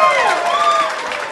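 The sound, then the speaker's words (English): A short burst of audience applause after an audience member sang a bar of a song, dense steady clapping mixed with cheering and a few high whoops, fairly loud and easing slightly toward the end. “Round of applause.”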